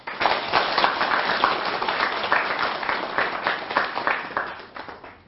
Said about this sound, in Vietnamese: Nếu mà các anh chị thấy rằng là việc học theo hành lắng nghe để giải tỏa nỗi khổ niềm đau của người thân và của chính bản thân mình đó là một hạnh nguyện mà mình có thể làm được, thì xin dâng cao tràng pháo tay.